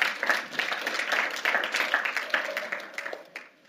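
An audience applauds with dense, steady clapping that holds for several seconds, then thins and fades out toward the end.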